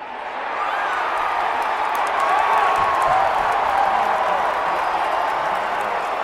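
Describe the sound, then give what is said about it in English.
A huge stadium crowd in Denver roars and cheers in a sustained, loud wave that swells after the first second and holds steady, with scattered whistles and shouts rising above the din, reacting as the Patriots kicker misses an extra point after a first-quarter touchdown in an NFL game. “That's how the Denver crowd reacted when Patriots kicker Steven Gostkowski missed an extra point after a first quarter touchdown”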